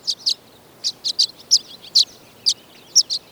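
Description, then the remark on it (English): Violet-green swallows gathered by the dozens on electrical wires in the western United States before migration, chattering in quick, high, twittering chirps, roughly a dozen short notes in loose pairs and clusters, fairly clear against a quiet background with no voices. “But now, they gather on electrical wires by the dozens in the western United States, chattering away as part of their pre-migration networking.”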